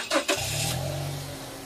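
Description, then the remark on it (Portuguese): A car engine catches with two quick, sharp bursts, then settles into a steady, low running hum with no voices, as someone sets off on a car trip. “Chegou, desci lá no avião, agora eu vou dar um rolê de carro.”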